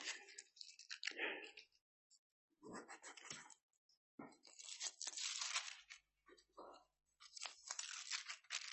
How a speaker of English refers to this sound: I'm using the wet Bible that got left out in the rain and all the pages. Doesn't matter how often they're used, stick together.